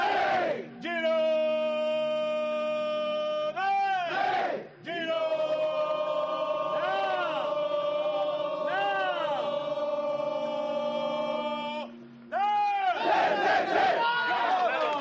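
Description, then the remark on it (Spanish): The Girona football team in a huddle roars a battle cry together, led by a member of the coaching staff: loud drawn-out shouts held for several seconds, broken by two brief pauses before a final burst of mixed yelling. “el que pega el grito nunca me acuerdo, pero es uno de los que acompaña al cuerpo técnico, no, no es ningún jugador.”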